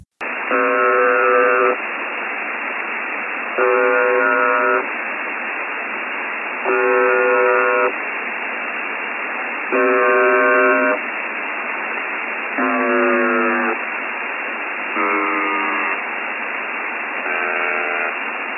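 Shortwave radio hiss carries a malfunctioning buzzer station: seven harsh buzzing tones sound about every three seconds, steady and fairly loud, with one tone wavering and sliding in pitch partway through.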